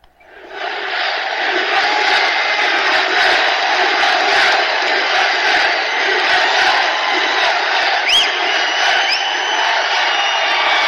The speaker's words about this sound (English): Crowd's going wild.